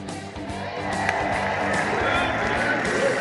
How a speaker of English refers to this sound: Well, that cheer you're hearing was for just about the cutest junior PA announcer you'll ever hear. It's Kids Sunday Fun Day here at Riders Field.